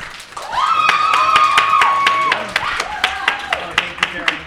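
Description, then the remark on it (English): A small audience claps in sharp, regular beats while someone lets out a long whooping cheer, with more voices calling out near the end, as an audience vote by applause for a panelist. “Okay, then let's do an audience vote. All right. So we're going to do it by applause.”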